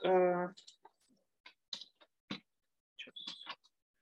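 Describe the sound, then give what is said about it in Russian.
A voice trails off, then a handful of short, crisp clicks follow at uneven intervals, fairly quiet: keyboard keys being pressed for the Ctrl+S shortcut to save a document. “И третий вариант клавиатуры. Вы нажимаете”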